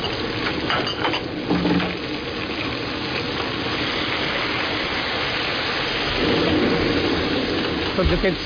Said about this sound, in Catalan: Tots aquests sí, sons aquests que sons estan sonant de cuina, no? Sí. De coses que se mouen, de sofregits, de líquid que va d'un costat a l'altre.